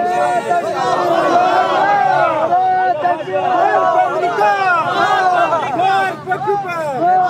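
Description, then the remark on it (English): A large crowd outdoors in front of the U.S. Embassy in Kabul chanting "Allahu Akbar" and shouting "death to America" together in loud, rising-and-falling voices, with the collective cries repeating in rough waves and no single speaker standing out. “The crowd starts chanting Allahu Akbar, which means God is greatest.”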